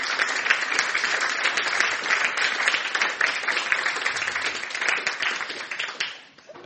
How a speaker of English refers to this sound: Give our panel a round of applause.